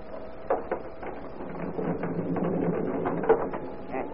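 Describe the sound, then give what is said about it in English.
A house door being unlocked and opened on a dark and stormy night: a few sharp metallic clicks and rattles of a lock, a steady low mechanical rumble of handling, then a louder clack as the door gives way. “Wait. I'll open the door.”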